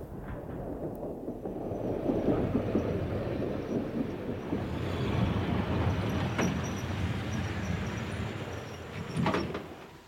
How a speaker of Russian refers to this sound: Поезд номер 2121-Би прибывает на конечную станцию.